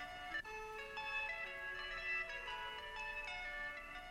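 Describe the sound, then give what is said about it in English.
A phone ringtone plays on its own, a bright electronic tone with a siren-like melody that shifts between pitches and holds a steady loudness for the whole stretch. “I think my phone's ringing.”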